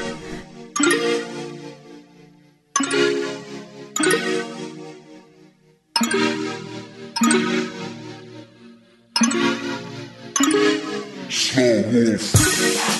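A song's instrumental intro: bright, bell-like chords struck one after another, each ringing out and fading, before the arrangement swells into a fuller, busier sound at the end.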